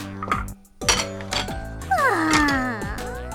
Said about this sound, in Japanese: はあ、まったく片っ端から皿を割っちゃって、こんな簡単な仕事もできなくて。 うるさい。世が悪いのではない。皿が弱すぎるのだ。